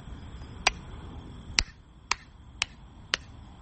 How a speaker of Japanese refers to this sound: あれ神社とかの二礼二拍手のあれみたいな、あのこんな感じですよ。